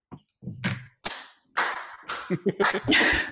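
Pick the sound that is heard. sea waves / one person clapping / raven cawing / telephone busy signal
one person clapping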